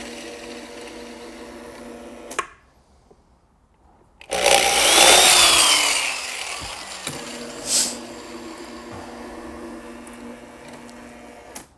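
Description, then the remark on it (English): A power drill whines steadily, cuts out for a moment, then roars harshly as it bites into the hard shell of a helmet, drilling holes in its side for goggles or a face shield, before easing back to a steady whir. Fairly loud, with no talking. “Now also at this station, if the customer requires goggles or a face shield, this is where we will drill the holes. And it just requires a little drilling right in the side.”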